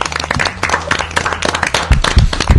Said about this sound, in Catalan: No passa res, anem a fer un fort aplaudiment perquè ho heu fet totes molt bé.